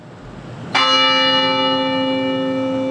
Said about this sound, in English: The bell tower tolled at 1:02 this afternoon to begin a campus-wide moment of silence.